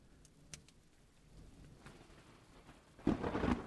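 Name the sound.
rain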